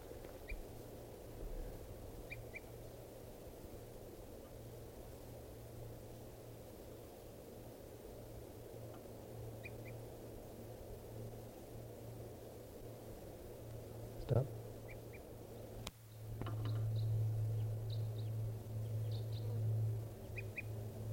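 bird calls

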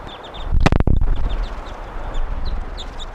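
wild bird calling

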